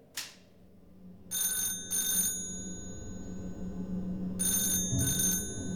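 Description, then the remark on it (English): An old-fashioned telephone bell rings in two double bursts at 1 o'clock in the morning at the home of the Chief Constable of Cumberland, a pause between them, bright and metallic over a low background hum, with a faint click at the start. “At 1 o'clock in the morning, the phone rings at the home of the Chief Constable of Cumberland.”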